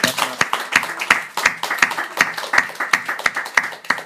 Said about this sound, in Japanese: すべての栄光を天のお父様にお返しし、拍手をもってこの礼拝を終わります。